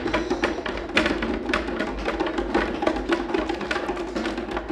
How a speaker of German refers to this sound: Und der Esel trappelte auf dem Pflaster.